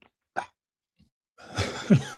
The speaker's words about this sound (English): Jeez, I wasn't coughing this bad earlier.